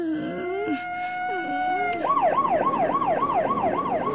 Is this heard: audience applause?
no